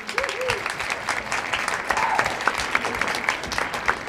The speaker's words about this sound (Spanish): Vale, me parece muy bien. Buen llamamiento. Un aplauso.